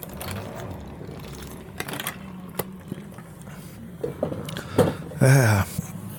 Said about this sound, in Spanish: Voy a tomar mi agüita y a ver cómo soy en el micrófono.